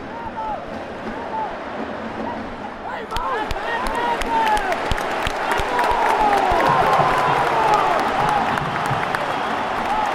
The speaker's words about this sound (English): Another corner. Grealish revving up the crowd.